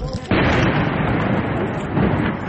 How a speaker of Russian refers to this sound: На взрывы не реагируют.